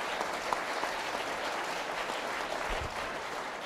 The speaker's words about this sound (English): let's give them all a round of applause, you know? Good.